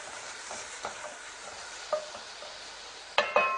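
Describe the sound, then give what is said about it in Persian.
A steady, soft sizzle of herbs frying in a pan for a Persian green-almond (chaghaleh badam) stew, with a few scraping clinks from stirring, the loudest pair near the end. No one speaks. “سبزیمون تفت کرد، حالا نوبت پیاز هست.”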